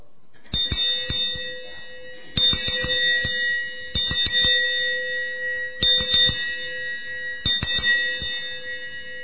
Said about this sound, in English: Okay, the bell sounds when it's moving, right? When it's being moved back and forth.